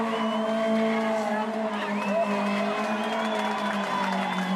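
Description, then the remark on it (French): A Peugeot 205 Turbo 16 Evolution Group B rally car engine holds a loud, steady droning note with a slight rise in pitch, while a crowd murmurs and cheers in the background throughout. “voici la Peugeot 205 Turbo 16 Evolution, qui est littéralement la reine des rallyes et qui gagne...”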